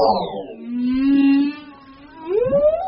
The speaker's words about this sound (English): Male humpback whales are the concert singers of the marine world. These ocean giants belt out tunes that can be heard perhaps hundreds of miles away. The songs attract friends and lovers and maybe keep rivals at bay.